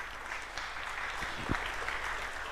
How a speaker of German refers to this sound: So, nächste Sache. Vorhang 2.0. Klatschen. Der Mann da mit dem orangen T-Shirt.